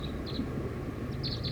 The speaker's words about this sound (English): Song of the wild bird. Very soft.